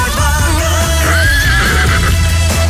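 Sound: horse neighing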